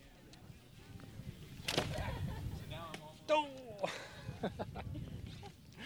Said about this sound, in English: That was a kid hurling a device called an atlatl. It's kind of like hurling an arrow with a stick.